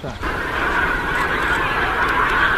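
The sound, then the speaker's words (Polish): A large flock of wild geese calls continuously, a dense overlapping chorus of honks at a steady, fairly loud level with no pauses, in Kiszkowo commune. “Rolnicy z gminy Kiszkowo liczą straty spowodowane przez dzikie gęsi, a nie są to jakieś drobne stada”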